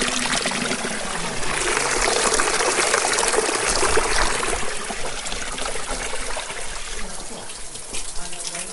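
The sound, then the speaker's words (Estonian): Spring water trickles and splashes steadily on an empty stony square in a village, a continuous bright gurgling flow that swells slightly midway and carries on without pause. “Seda vett, mis kunagi tervele külale kauni nime külm vesi andis.”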